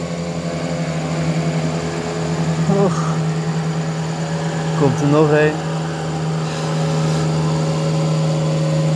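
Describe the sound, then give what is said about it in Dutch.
A boat's motor drones steadily as people pass by on a boat on a river with jungle on both banks, a constant low hum with a brief rise in the middle, while a person speaks a couple of short remarks over it. “Dan komen er gewoon mensen voorbij op een boot.”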